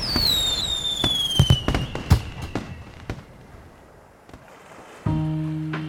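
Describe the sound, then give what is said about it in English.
Pink and blue fireworks pop and bang in irregular bursts over a shore after a falling whistle, the blasts fading over a few seconds; near the end a steady, low, droning tone starts abruptly. “We watched with childlike glee until the last burst of pink and blue rained down from above.”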